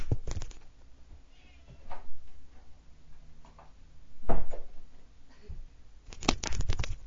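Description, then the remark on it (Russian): A cat meows insistently several times, demanding to be let out, with short pauses between calls and a louder, drawn-out cry near the end; no one speaks. “Я прошу прощения, кот срочно требовал, чтобы его выпустили.”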